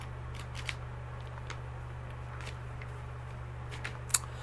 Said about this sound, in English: All right. We're turning page 13.